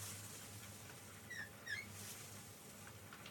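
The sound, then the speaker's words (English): Window blinds being drawn, giving a few short, high-pitched squeaks over a soft sliding rustle. Fairly quiet, with no voices. “Why is that so squeaky?”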